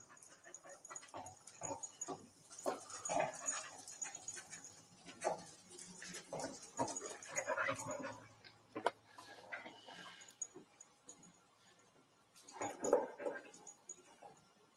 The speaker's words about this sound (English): The second dog that we've seen work today is the crime scene dog, Keela. She will only indicate to me when she's found human blood.